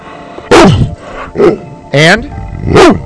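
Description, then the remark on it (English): A dog named Ranger barks four times in short, loud bursts with brief pauses between them; one bark is more drawn-out and whiny than the others. “And Ranger, what is dog spelled backwards? That's good.”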